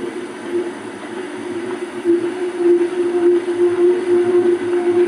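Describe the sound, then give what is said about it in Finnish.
A large ship heard underwater, its vibrating propellers producing a steady, droning hum with a strong low tonal band and rough vibrating texture, continuous and fairly loud throughout. “Iso laiva, missä on aika ruma ääni.”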